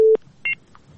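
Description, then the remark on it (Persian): A telephone busy tone after a caller hung up during a radio call-in show: a short, steady low electronic beep, then a brief higher double-pitched beep after a pause, clear on the line with no one speaking. “بله، اړیکه یې پریښوله.”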